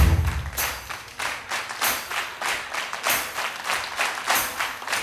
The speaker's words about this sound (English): Get creative. You can clap off the beat if you want. There it is. Anywhere you feel it. If you got no rhythm, then put the clap where you like.